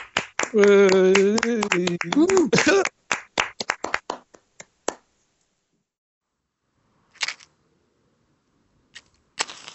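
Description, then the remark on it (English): A brief burst of applause from a small studio audience for performer Alan Kazam, with a whooping voice at the start, quickly thinning to scattered individual claps and then a few isolated ones after a pause. “So let's a round of applause for Alan Kazam.”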